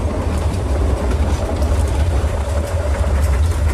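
A train rolls steadily along the rails, a loud continuous rumble with a deep low-end drone and faint rattling over the top, with no voices and no pauses.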